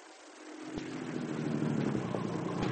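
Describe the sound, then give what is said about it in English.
A car engine drones steadily as the vehicle drives along to a farm, its low rumble slowly swelling in loudness, with a couple of faint thumps breaking through. No one speaks. “Oh, it's awfully nice of you to drive me to the farm, Penny.”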